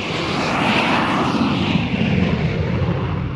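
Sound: jet airliner taking off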